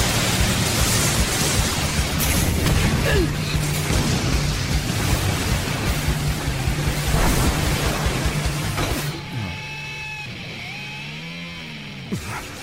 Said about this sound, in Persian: انفجار مسلسلی.